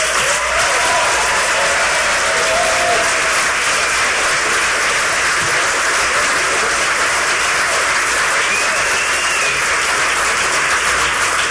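An audience bursts into sustained applause, a dense, steady wash of clapping that stays loud for about ten seconds with a few faint whoops rising above it.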